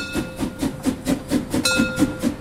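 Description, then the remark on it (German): The Molly, the old resort steam railway of Bad Doberan, puffs loudly in a fast, steady rhythm of about four chuffs per second as it carries tourists through the small town to the Baltic Sea, with a thin whistling tone that grows stronger partway through. No one speaks. “Nur ein paar Schritte entfernt hält die alte Bäderbahn, der Molly, um Touristen mit lautem Schnaufen mitten durch die kleine Stadt an die Ostsee zu fahren.”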